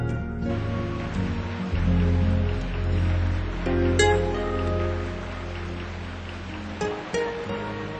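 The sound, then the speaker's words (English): Steady rain pours down in Cambodia outside the rainy season, in a continuous, even hiss that fills the whole stretch, with a low droning hum underneath and no one speaking. “So it rains about 3 months ahead of time.”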